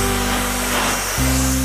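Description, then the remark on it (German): A hair dryer blows with a steady, loud airy roar over a low motor hum, which steps up in pitch about two-thirds of the way through, as if switched to another setting. “Ich habe den Föhn in der Hand. Erst Föhn? Ja, erst Föhn.”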